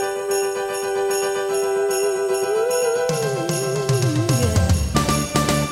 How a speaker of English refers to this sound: Sleigh bells. Okay. Let's just zero in on these sleigh bells for a second. We can hear them right between the intro and the first verse of this song. Let's have a listen.